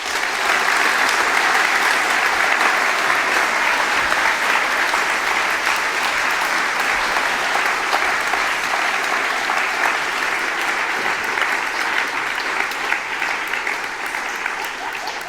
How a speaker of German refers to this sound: Und dann zum Schluss bitte ganz großen Applaus für alle Trolle.